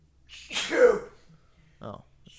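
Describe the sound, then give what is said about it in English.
A single loud sneeze bursts out with a sharp breathy onset, followed a moment later by a brief murmured voice. “I'm going to sneeze.”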